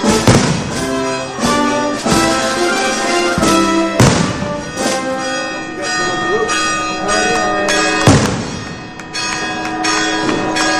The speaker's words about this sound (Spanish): Aquí seguimos con el golpeo de campanas y las salvas que se siguen disparando en el cielo de Benidorm